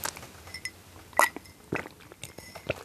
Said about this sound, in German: Ja, Moment, ich muss eben einen Schluck Wasser trinken, damit ich euch hier nicht voll huste.